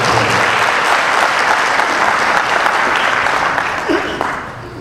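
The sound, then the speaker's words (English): An audience breaks into sustained applause, a dense, steady wash of clapping hands that holds loud for several seconds before starting to thin and taper off toward the end. “Oh, round of applause.”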